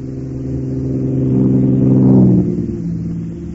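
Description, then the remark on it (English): Rally car number 13 roars closer, its engine climbing to a loud, revving peak about two-thirds through as it passes, then the pitch drops and fades slightly as it moves away. “And here comes 13.”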